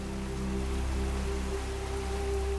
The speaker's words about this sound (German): Wenn du nur durch das fallende Wasser schauen könntest, dann würdest du die Frau, die zu der Stimme gehört, bestimmt sehen.